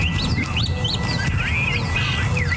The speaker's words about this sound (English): Where are the nation's birds? There's less of this across the country, especially the American Southwest.